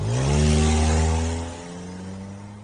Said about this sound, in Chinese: 在和大家寒暄了一会儿后，孔俊杰打开他那辆崭新的日产风度的车门，殷勤地照顾顾思雨坐到车里，给大家微笑着挥了挥手，潇洒地驾车离去。